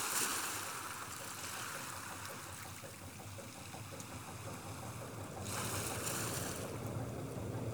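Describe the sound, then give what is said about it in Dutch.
Waves break steadily on the hard sand of the Zeeland coast, a continuous hiss of surf with a louder surge at the start and another crashing in near the end. No voices, only the sea. “Daar klommen de golven, balanceerden ze zo lang mogelijk voor ze bruisend uitgleden naar het harde zand van de Zeeuwse kust.”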